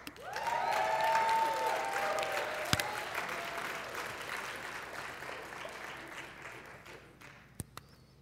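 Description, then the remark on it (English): A church audience, asked to cheer for the Las Vegas Golden Knights, breaks into sustained applause mixed with cheering and a few high whoops, the clapping swelling quickly then slowly tapering off over several seconds, with a couple of sharp knocks near the end. “Let's have a cheer this morning for our Las Vegas Golden Knights.”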